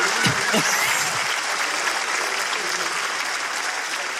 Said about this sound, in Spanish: Uno no, quiere ser bueno, un aplauso pero... para Hitler. Por favor.